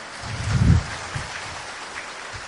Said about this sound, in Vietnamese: Cho tràng pháo tay quý vị, hay quá đấy chứ.